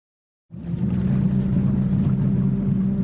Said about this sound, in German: Die Sonne ist noch nicht aufgegangen, als das kleine Forschungsboot der Universität von Murcia aus dem Hafen von Lopagan auf das Mar Menor hinausfährt. Das kleine Meer, wie es übersetzt heißt.